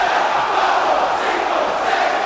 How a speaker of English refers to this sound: The crowd chant in Spanish for the 10 count turnbuckle punches. This is why they call him Super Crazy!